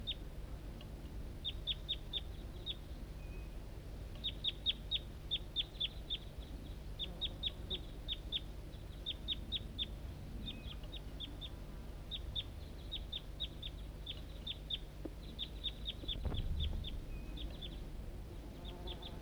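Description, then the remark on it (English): A wild bird up in an oak tree calls back and forth with decoys in quick bursts of high, thin chirps repeated in clusters, over a steady low background rumble, with no one talking. “And decoys responding. Wild.”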